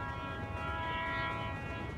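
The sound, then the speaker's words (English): A train's heavy wheels rumble steadily along the tracks while its whistle sounds long, low, unbroken notes over the noise. It seems fairly faint, with no voices. “After a minute, I hear the faint rumble of heavy wheels on invisible tracks and the long, low notes of the train's whistle.”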